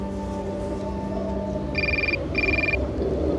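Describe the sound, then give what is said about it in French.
A mobile phone rings in two short electronic bursts with a brief gap between them, a call from an office in Paris during an outdoor Passion play with Jesus on the cross, heard over a steady windy hum with no one speaking. “Et mon téléphone sonne à ce moment-là.”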